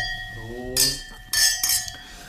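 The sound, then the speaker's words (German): Glasses clink together in a toast, two or three bright ringing taps in quick succession, following a short stretch of voice at the start. “Prost mal bitte wieder mal an. Prost.”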